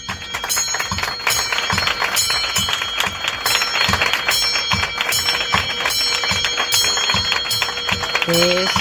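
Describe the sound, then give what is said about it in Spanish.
The bell of dreams rung by an oncology patient, struck over and over in a quick, steady rhythm, its ringing tone lingering throughout, set against a dense backdrop of crowd noise or clapping. “Es el toque de la campana de los sueños.”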